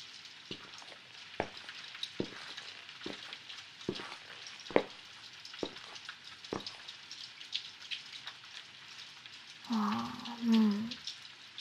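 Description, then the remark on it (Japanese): Steady, dense rain hisses throughout, having grown heavier than earlier, with sharp drips and splats landing at irregular intervals; near the end a brief voice briefly rises over the downpour. “さっきより雨強くなってる気がする。”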